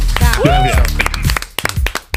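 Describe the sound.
A short burst of scattered hand claps, a handful of sharp irregular smacks, mixed with excited cheering and whooping voices at the start.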